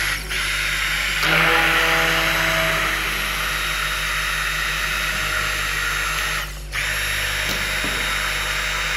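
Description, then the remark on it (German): A steady, loud motorized whir runs throughout, with a brief dip and shift in pitch near the start and another short break around six and a half seconds, as a blender mixes a milky mixture until it thickens to a pudding-like consistency. “Wir mixen jetzt so lange, bis es eine puddingartige Konsistenz erreicht.”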